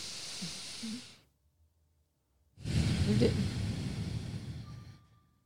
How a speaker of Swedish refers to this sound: Så andas du bara ut och in. Och vi vill jättegärna höra dina andetag så att du verkligen andas ut så att vi hör dina andetag ut.